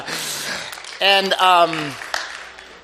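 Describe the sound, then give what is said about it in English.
An audience claps, a steady hiss of many hands that fades gradually toward the end, with a voice briefly rising loudly over the applause partway through. “And so, yes, you can clap.”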